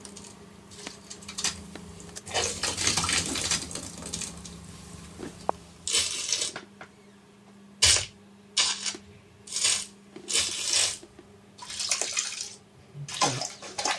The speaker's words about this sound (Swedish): Det är massa plaskelyder och ja. Høres jo ikke så umiddelbart kjempeondt ut for meg. Nei, men det var det å få fram liksom sånne saftige lyder liksom.